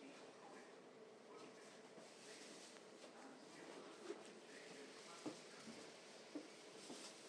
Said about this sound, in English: I said at the start, this is a fairly quiet train. You've heard a few more people get on at Vauxhall there.